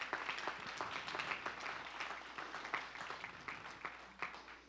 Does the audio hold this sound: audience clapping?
yes